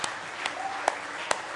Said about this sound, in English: Oh, give the Lord a real good hand clap of praise tonight.